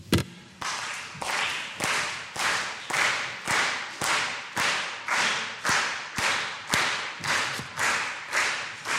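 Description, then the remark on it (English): A standing group claps together in a steady, even rhythm, about two claps per second, each loud crack blending into a brief wash of sound before the next one lands. No one speaks. “All right, everybody with me, let's start clapping together.”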